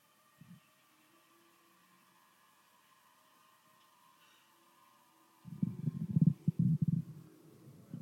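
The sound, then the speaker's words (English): A low, gurgling stomach rumble, as from indigestion, churns in bursts for a few seconds after a long quiet stretch with faint steady hum, preceded by one brief low gurgle. “Somebody sounds like they got indigestion.”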